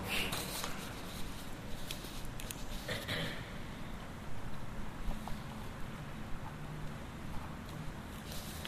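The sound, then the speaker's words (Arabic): Soft scratching and rustling as someone writes on paper sheets and shuffles them, writing a single word, the name Ibn al-Mubarak, from bottom to top, with a few brief crisp bursts over a steady low background hiss. No one speaks. “أكتبها عندكم، ما أريد أن أخرب أوراق.”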